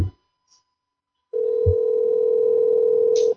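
A telephone ringback tone on an outgoing call: one steady, loud electronic hum lasting about two seconds, heard alone, with a soft thump near its start and a faint click as it cuts off.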